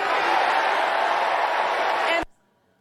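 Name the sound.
crowd chanting a slogan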